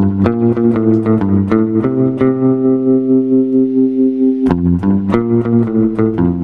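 A low-pitched bass six guitar plays a solo melody of plucked notes with spring reverb and tremolo, holding one long sustained note midway before the quick phrases return, loud and up close.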